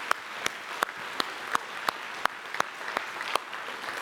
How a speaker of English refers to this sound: Can we just take a moment and recognize graduates and say good job with our applause? Come on.